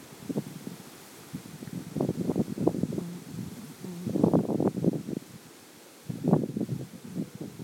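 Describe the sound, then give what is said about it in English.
Strong wind gusting outdoors, buffeting and rustling in uneven bursts that swell and fade, with a heavy surge in the middle and another near the end, fairly loud. “Very windy.”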